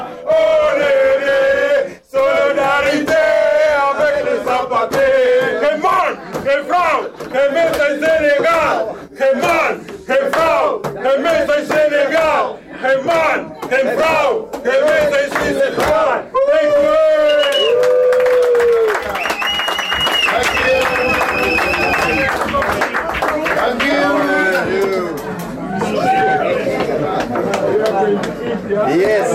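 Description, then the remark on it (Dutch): A large protest crowd chants loudly in unison, including "we will fight for freedom of women" and "solidarity avec les sans papiers". Many voices rise and fall in a steady rhythm, punctuated by sharp, regular clapping throughout. “Wil je het ook herbeleven nog een keer, als je het zo weer hebt gehoord”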